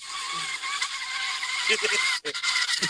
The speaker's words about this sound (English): Car theft. All right, tire screech sound effect. Here we go.